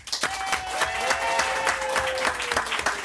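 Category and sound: crowd, studio audience applause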